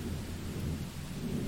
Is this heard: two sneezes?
no